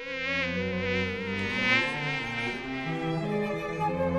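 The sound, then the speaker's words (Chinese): A small mosquito's whining buzz drones continuously for a few seconds, fairly loud, its pitch wavering slightly as it hovers, with no voices alongside; the mosquito gets into a prince's ear to bite him. “可是这时候，却有一只小小的小蚊子钻进了王子的耳朵里头，狠狠地刺他一下。”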